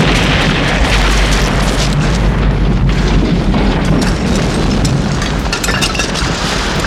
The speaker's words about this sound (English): Taking up a position behind a tree, Katz jerked a grenade from his webbing, pulled the pin with his hook, counted down silently, then lobbed the bomb under the helicopter. Fire in the hole!